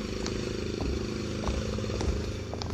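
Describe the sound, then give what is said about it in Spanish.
A small lawnmower engine runs steadily as grass is cut, its low buzzing drone holding constant with a few faint ticks and rattles over the top. No one speaks. “Además del ruido de la podadora, trae puestos los audífonos”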